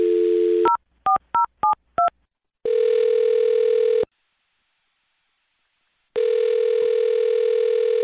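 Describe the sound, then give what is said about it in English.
A steady dial tone gives way to five quick two-tone keypad beeps as the radio show Brook and Jubal in the Morning dials a call, followed by a long electronic ring tone, a few seconds of silence, and a second ring starting. “I'm going to dial this one right now, okay?”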